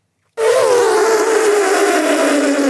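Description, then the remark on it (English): A person's voice imitates an elephant trumpeting: one loud, brassy, sustained blare that starts abruptly after a short silence and slowly slides a little lower in pitch for about two seconds. “I actually do an incredible elephant, which I think is probably an incredible mammoth.”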